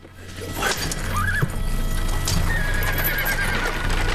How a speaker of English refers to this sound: DeRose gets back into the coach and Abel gently whips the horse's reins to get them moving.